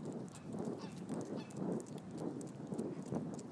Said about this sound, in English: What's going on along here? Like a goose. A loose goose.